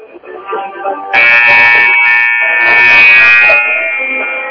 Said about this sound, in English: I was just waiting for the buzzer to stop. 15-11 is the score as we start the second quarter of play from the Kabul Holiday Tournament.